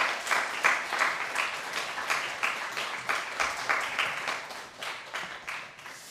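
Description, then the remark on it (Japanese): An audience at a church worship gathering applauds steadily for several seconds to welcome a preacher, a dense wash of many hands clapping at moderate volume with no voices over it. “拍手を持って迎えしましょう。”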